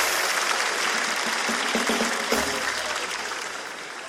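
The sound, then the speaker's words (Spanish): Steady audience applause for a show participant fills the whole stretch, a dense wash of many hands clapping at once, loud at first and easing slightly toward the end, with faint voices beneath. “Un fuerte aplauso para el amigo.”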